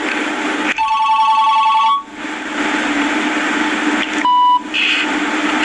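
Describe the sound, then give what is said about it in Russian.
A telephone rings with an incoming call from the same person calling again: two electronic ring bursts, the first longer and the second short, sounding over a steady background hiss. “Дай свою трубку. Звонит тот же человек.”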